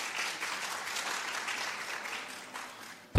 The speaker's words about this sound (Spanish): Por favor, si aplauden a todos en conjunto, al final.